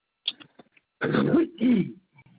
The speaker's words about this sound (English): I can't stand this cough anymore.